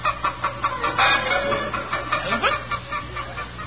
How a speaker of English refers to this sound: See the chickens. No wonder they wouldn't lay.